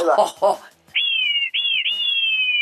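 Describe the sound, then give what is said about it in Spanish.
After a brief voice, a clay whistle imitates an eagle's call with three loud, high, piercing tones, each sliding slightly downward, the last one long and sustained. “Y también el águila, mira, ahorita la vamos a seguir.”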